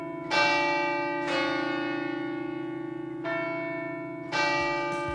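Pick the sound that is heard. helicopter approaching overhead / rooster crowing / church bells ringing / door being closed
church bells ringing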